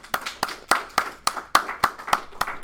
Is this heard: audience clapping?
yes